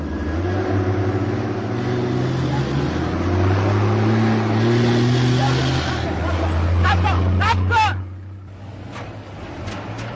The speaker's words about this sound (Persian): لند کروز بی توقف میره و صادق ناامید پیاده به راه میفته.